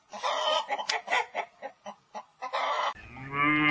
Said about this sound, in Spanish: ¡Afuera, gallinas! ¡Váyanse!